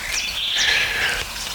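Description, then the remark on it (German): A chaffinch sings one quick, bright phrase of rapid trilled notes that slide gradually downward, clear, with no voices and only faint background hiss. It is the first, still rusty chaffinch song of the year. “ja, wenn jetzt Woche für Woche neue Vogelarten kommen und dieser erste rostige Buchfink überstanden ist, der, ach, ich denke, schaffen sie es dieses Jahr wieder in ihr saftiges, schmetterndes Lied reinzuschwingen.”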